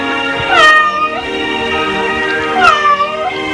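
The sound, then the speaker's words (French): A cat meows twice, two drawn-out, wavering cries a couple of seconds apart, fairly loud over a quiet background with no one talking, in a house during a move. “On a amené aussi le pauvre petit chat.”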